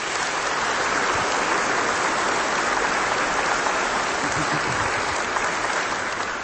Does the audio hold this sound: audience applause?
yes